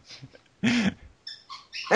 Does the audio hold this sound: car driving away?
no